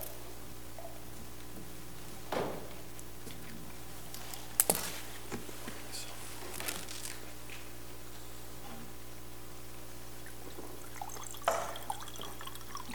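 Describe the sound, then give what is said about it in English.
Water being poured or sipped at a counsel table during a court hearing: a few soft, scattered liquid sounds and light clinks spread over several seconds, with no one talking. “Let me clear my throat for 1 second. There's water on counsel table.”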